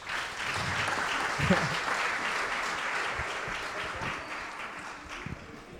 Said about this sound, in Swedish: Kan Jonathan få en applåd bara?